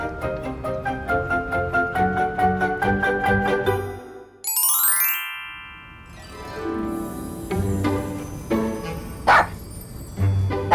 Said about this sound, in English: What's that? It's a dog!